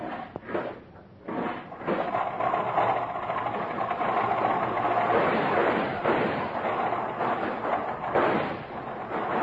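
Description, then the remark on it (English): An early automobile engine in Detroit, hand-cranked with the spark lever held down, sputters briefly, then catches and runs steadily with a continuous mechanical chugging rattle that holds at an even loudness to the end. No one speaks. “Man, just listen to that cat purr.”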